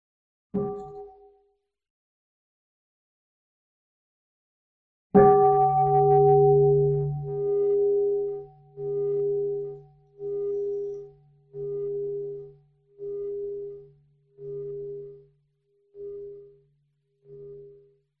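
A bell gives a brief strike, then after a pause rings out loudly with a deep, resonant tone that swells and pulses in a steady rhythm as it slowly fades. No voices.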